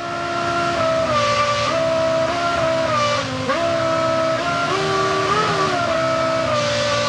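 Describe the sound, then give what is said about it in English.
A real car engine, programmed to change and hold its RPM like musical notes, runs steadily and loudly for several seconds, its humming tone stepping up and down in pitch as the revs shift, with no voices over it. “Oh, that's a real engine. Yeah. That's not just the computer simulating it.”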